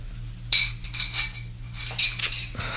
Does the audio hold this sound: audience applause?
no